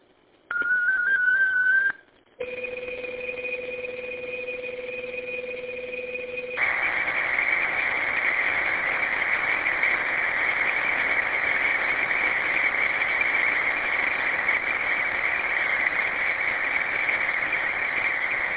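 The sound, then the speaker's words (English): Steady electronic data tones of a short 37-second digital traffic message sent over a radio channel by station KGTC: a brief rising pitch, a short gap, then sustained dual-tone signaling shifting to a continuous high buzzing carrier, loud and unbroken with no voices. “All right, this is a short message, 37 seconds. Stand by for digital traffic.”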